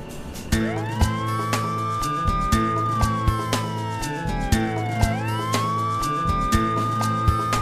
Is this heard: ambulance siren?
yes